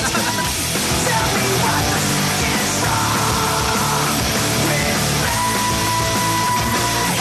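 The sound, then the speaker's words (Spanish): A long, sustained scream held for several seconds at steady full volume, like a drawn-out goal call, with a dense, noisy backdrop underneath. “Es como relatar un gol. Sí, el grito es este.”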